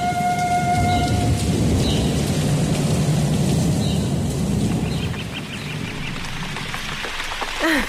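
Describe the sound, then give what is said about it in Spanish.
A thunderstorm: steady, heavy rain pours down with a deep rumble of thunder rolling underneath, dense throughout, easing slightly near the end, with a few faint high chirps early on. “Al día siguiente, vino una tormenta y llovieron aguacates.”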